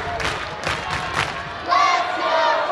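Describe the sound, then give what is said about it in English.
A rowdy baseball crowd roars in waves of cheering and shouting on a Saturday night in Towel City during a 2-2 count in the bottom of the ninth, swelling into louder, sustained yells and whoops partway through, with no announcer talking over it. “The crowd, as you hear, rowdy.”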